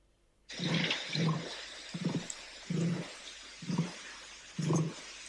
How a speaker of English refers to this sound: This is the sound of an emu.